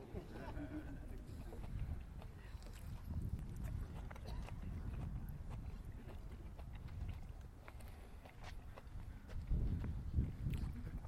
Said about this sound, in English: You guys have to be patient now while I chew this up, okay?